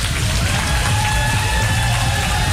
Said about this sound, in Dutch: En dan vraag ik het aanwezig publiek hier een heel groot applaus voor deze jongens.